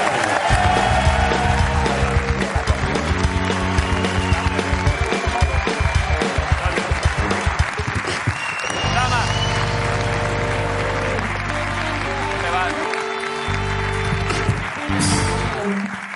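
A large audience claps and cheers loudly and steadily while a band plays along, the music's sustained notes continuing as the clapping thins out toward the end.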